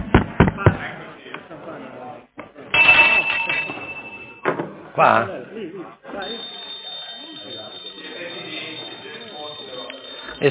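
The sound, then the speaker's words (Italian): A loud electric bell rings in long, sustained bursts, first briefly and then continuously for several seconds, calling a committee meeting to order, with a few voices and clattering noises underneath. “Il campanello dov'è?”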